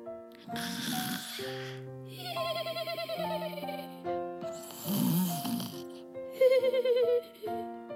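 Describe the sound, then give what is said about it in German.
Two slow, rumbling snores, each followed by a thin whistling exhale, drift over soft sustained background music, quiet and unhurried like someone dozing. “Leises Schnarchen drang an Merles Ohr.”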